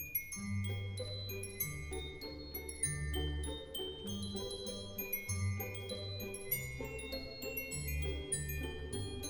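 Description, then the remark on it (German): Bright glockenspiel bells play a quick, lilting tune of ringing struck notes, backed by soft, sustained low accompaniment. No voices are heard. “Komm, du schönes Glockenspiel, lass die Glöckchen klingen, klingen, dass die Ohren ihnen singen.”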